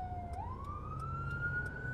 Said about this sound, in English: and it looks like there may be a ambulance coming our way. There is an ambulance coming our way. You'll hear it on the podcast.